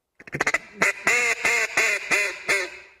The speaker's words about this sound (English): If you say 10, 10, 10. 10, 10. You notice your tongue comes up and actually hits the roof of your mouth. So with a duck call, you're basically going 10, 10, 10.